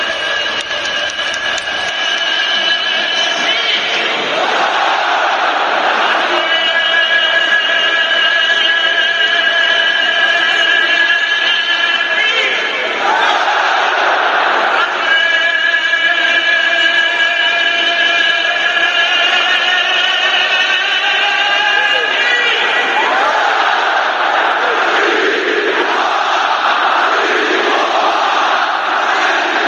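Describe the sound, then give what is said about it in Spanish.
A huge football crowd at San Mamés chants in unison, loud and continuous, its sung phrases rising and falling in waves every several seconds amid a steady roar of cheering voices. “Sonar así, no digo que vaya a sonar así porque eso es San Mamés, pero seguro que va a sonar y bastante la afición rojiblanca en la salida del equipo a las instalaciones de Lezama.”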